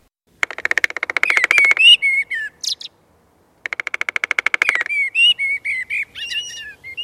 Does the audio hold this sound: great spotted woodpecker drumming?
yes